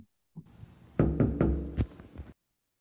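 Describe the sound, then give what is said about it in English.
A short series of about four or five firm knocks on a door, with a brief pause before the last ones and a faint steady hum underneath. No one speaks. “Shit, someone's at the door. Hang on a sec.”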